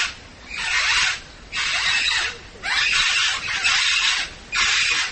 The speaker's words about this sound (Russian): Так кричит редчайший попугай с острова Сант-Люсия в знаменитом зоопарке Джеральда Даррелла на северо-востоке Джерси.